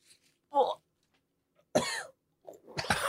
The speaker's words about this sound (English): is blowing his nose. That's why he had to take a break.